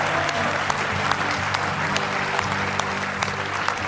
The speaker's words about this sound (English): Let's give him a real good hand clap of praise if you love him with all your heart.